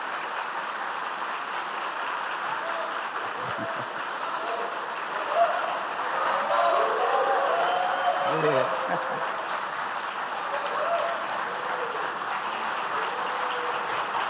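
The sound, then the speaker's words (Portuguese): A steady wash of audience applause, dense and even, continues for the whole stretch, while a few voices murmur and call out faintly underneath the clapping. “Portanto, é um bom administrador que defende a cultura brasileira e por isso merece um aplauso de todos vocês.”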